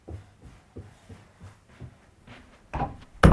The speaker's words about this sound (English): We open the door.